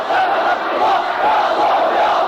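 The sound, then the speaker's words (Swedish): A large crowd of Iran-loyal fundamentalists in Lebanon chants in unison, a dense, loud roar of many voices with rising and falling rhythmic surges, a massed call to battle. “I Libanon blåste de Iran-trogna idag till strid. Liknande hörs från andra fundamentalister.”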